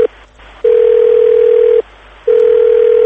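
A telephone dial tone as a radio reporter phones people for a report: a steady, low-pitched electronic hum that sounds in long pulses with short silent gaps between them, loud and alone with no talking.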